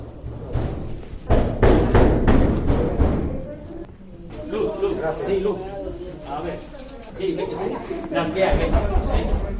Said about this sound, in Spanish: Nos detenemos en uno de los primeros apartamentos y de verdad, el miedo que yo sentí al lado de ese policía cuando empezaba a porrear la puerta...